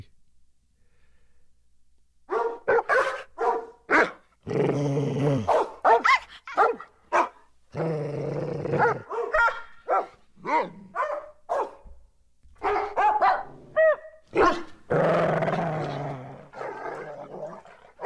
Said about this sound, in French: Merci les chiens!